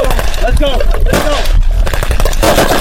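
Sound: gunfire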